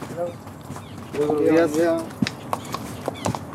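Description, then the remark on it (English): Horse hooves clip-clop on a trail toward the summit of San Cristobal hill in Santiago as two park rangers ride brown horses, a handful of sharp, unevenly spaced knocks, following a brief stretch of voiced sound and murmuring. “As I loop toward the summit, I meet two men riding beautiful brown horses.”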